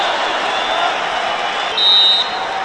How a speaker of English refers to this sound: Perhaps the biggest crowd reaction came when another UNI wrestler, Joey Laser, scored a major decision over Brian Pearsall of Penn State.